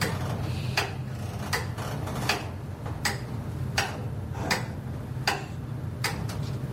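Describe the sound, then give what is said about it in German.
A simple Frisian pendulum clock, which drives an entire gear mechanism, ticks steadily, roughly one sharp click every three-quarters of a second, clear over a low, constant hum with no one speaking. “Das ganze Getriebe wird von einer einzigen, einfachen friesischen Pendeluhr angetrieben.”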